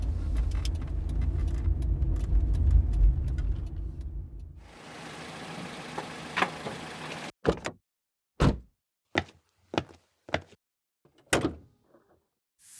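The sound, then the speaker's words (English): A badly maintained car engine rumbles roughly for a few seconds, then cuts out, followed by a scattered series of sharp metallic clunks and knocks, with no one speaking. “I've never seen a more badly maintained engine in all my years on the force.”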